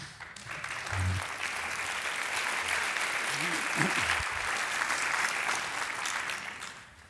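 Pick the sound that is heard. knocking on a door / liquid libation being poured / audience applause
audience applause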